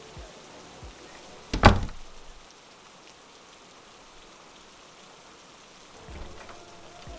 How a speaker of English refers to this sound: It's pouring.